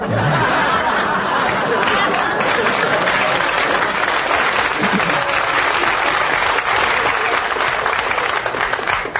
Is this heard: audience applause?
yes